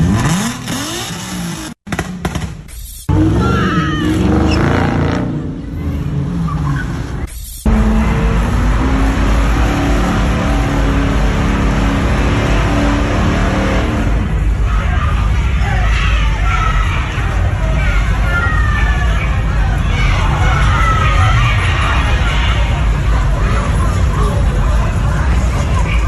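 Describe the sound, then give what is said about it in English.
Loud, chaotic street takeover in downtown Memphis, in front of the Orpheum Theater: car engines revving and roaring, tires screeching, and a crowd shouting and cheering throughout, dense with no pauses, as young drivers cause mayhem, some hanging out of the cars. “one of these street takeovers where you had all of these black kids in their cars, and they were causing all sorts of mayhem”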